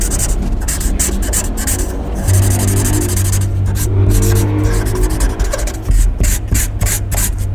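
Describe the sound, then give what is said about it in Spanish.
An illustrator's black pencil scratches and scribbles across a blank sheet of paper in quick, uneven strokes, a steady rasping texture with brief pauses, over a faint low hum and no speech. “Una hoja en blanco, un lápiz negro y un ilustrador.”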